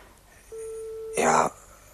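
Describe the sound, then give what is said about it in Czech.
A telephone on a wobbly table in a hallway rings once: a steady electronic tone holds for under a second, then gives way to a short, bright, jangling burst that cuts off abruptly amid quiet. “Tohle je můj telefon na vratkém stolku v předsíni.”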